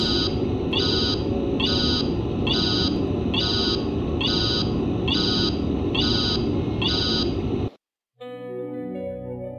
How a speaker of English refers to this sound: It's nice that they play the title theme, though. It's just with the... behind buzzer that's sort of distracting, to be honest, but it's all right.